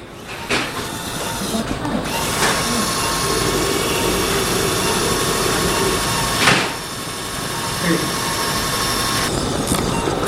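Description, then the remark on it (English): A surgical drill whirs steadily into a patient's bone during surgery, drilling to place a socket component, with a loud, continuous mechanical whine and hiss, pausing and changing pitch briefly a few times over about ten seconds. “I have a drill. We're using her landmarks to make sure that the socket goes in where it belongs.”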